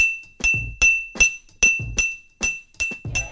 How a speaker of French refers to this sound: Pour les sons désagréables, d'abord la cuillère sur l'assiette et contre le verre.